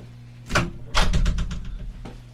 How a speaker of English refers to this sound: I should probably close the door with that coming through the speaker, right? Probably close the door.